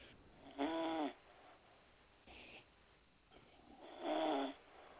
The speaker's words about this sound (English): Who the fuck is that snoring? Come on, fella, please.